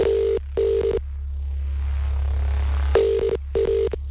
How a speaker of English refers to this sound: Let's call them back. But will that person answer the phone is always the question.